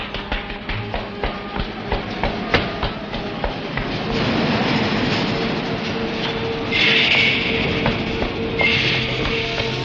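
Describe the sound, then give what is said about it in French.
A metro train rolls along with a rhythmic clickety-clack of wheels over rail joints, then settles into a loud, steady rumbling roar with faint high metallic squeals, continuous. “Il vient de sortir de l'immeuble et a pris le métro.”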